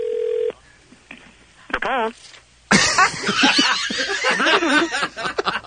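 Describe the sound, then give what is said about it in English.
A short steady telephone tone, then a few dialing beeps as a phone call is made, followed by a burst of loud laughter and overlapping voices. “we're going to make one more call, and if this one doesn't answer, if we don't get somebody on the phone”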